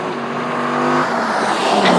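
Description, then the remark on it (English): A cab's engine roars and pulls away with a steady, rising hum, loud and continuous for a couple of seconds with no voices. “Okay, so I motor off there and hope. I took a cab because I'm like, you know what?”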